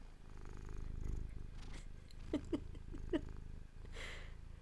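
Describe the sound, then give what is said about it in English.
A male cat sitting on a person's lap purrs close to the microphone, a steady low rumbling drone with a few soft chirping trills and rustles near the middle, no talking. “I'm restraining him from jumping onto the computer, but he's purring into the microphone.”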